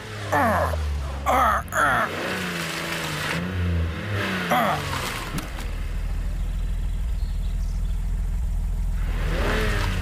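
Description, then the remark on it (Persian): A car engine revs hard and strains while the car is stuck, its pitch rising and falling in bursts, then settles into a steady loud roar as the wheels labor, with voices gasping and groaning early on. “در نمیاد، در نمیاد. عجب گیر کردیم. باید پیادشیمو از اینجا درش بیاریم.”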